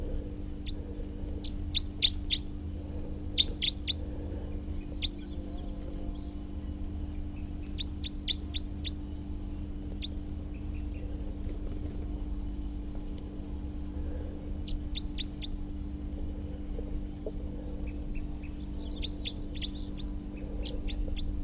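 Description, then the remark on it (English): A wild male bird calls in repeated bursts of short, high, chirping notes, clustered in quick rapid series with pauses between, over a steady low hum and background noise; no one speaks. “And here's that wild male again, who was calling before, and I have good recordings of.”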